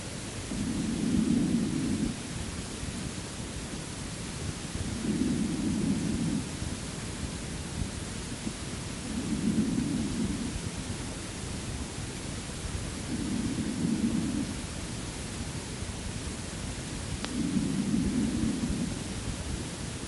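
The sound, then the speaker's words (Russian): Markedly weakened breath sounds on auscultation on the left side, below the angle of the scapula: five soft, muffled, low-pitched breaths at a slow, even rhythm, about every four seconds, barely rising above a steady background hiss. “Слева, ниже угла лопатки, определяется резкое ослабление дыхания.”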